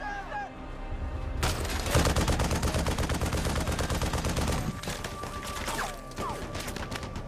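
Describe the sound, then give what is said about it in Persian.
Heavy, sustained machine-gun fire aimed at a rooftop on the right erupts after a brief quiet start, with rapid overlapping bursts rattling loudly for several seconds, barely pausing before continuing. “به پشت بوم سمت راست شلیک کنین. تا وقتی بهتون نگفتم دست نگه ندارین.”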